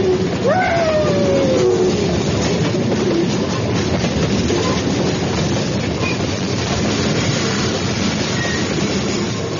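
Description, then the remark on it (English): A train runs steadily along the rails with a loud, continuous rumble and rattle, a falling whistle-like squeal sounding briefly near the start over the dense clatter. “What a train! What a ride! What an engineer!”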